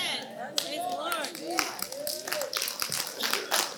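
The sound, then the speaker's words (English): Scattered hand claps from a church audience ring out in sharp, uneven bursts while several voices talk and call out over them. “Listen, Brother Osteen would say, if you're going to clap, clap. Don't patty cake. Just clap.”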